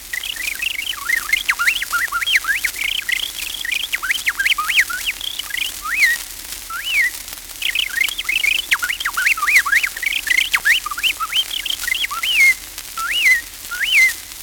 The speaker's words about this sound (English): The jerky, jingling song of the bobolink is usually given in one breath, ending with a clear whistle entirely distinct from the song.